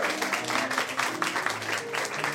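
Steady audience applause for a comedian at the Canal Cafe, a dense wash of many hands clapping at an even, sustained level throughout, with faint voices and cheers mixed in beneath it.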